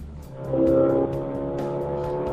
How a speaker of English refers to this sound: Are you a car guy? Is that the kind of thing that kind of make your heart race? Listening. Hearing vroom vrooms and stuff. Yeah. The racing, huge, powerful engine. It's cool. I like it. He has a turbocharged 2-liter engine with 370 horsepower